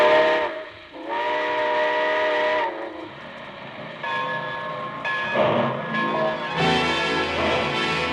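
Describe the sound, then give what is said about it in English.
A loud steam train whistle blows in several long, wavering blasts, sustained, with the rumble of a train getting underway beneath it as the Railroad Hour's Summer Show Train pulls out. No one speaks. “So join us again next Monday, folks, and ride with us aboard the Summer Show Train back to 1926. All aboard! Well, it looks as though we're ready to pull out.”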